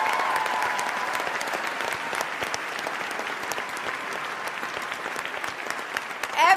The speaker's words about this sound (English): So I want you to give them another round of applause.